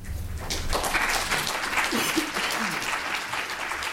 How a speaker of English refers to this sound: About 50 people applauded the city council's decision late last year.